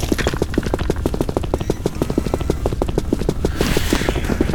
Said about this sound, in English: I want these footsteps though. Mommy, these are nice.